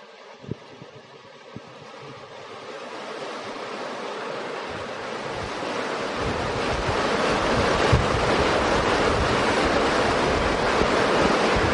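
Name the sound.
heavy rain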